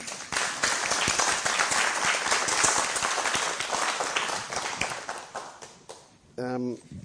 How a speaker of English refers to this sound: I was ready to clap. Oh, I thought you were going to ask another question. You want to clap? Okay, clap. Thank you very much.